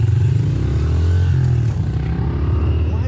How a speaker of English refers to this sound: What you just saw was two dirt bike riders in the California mountains.